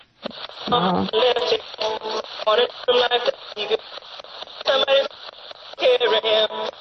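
A radio on sweep mode, after its sweep button is pressed, scans across stations, catching choppy, tinny bursts of a song with singing and melody, cut up by brief gaps and static as the tuner keeps scanning.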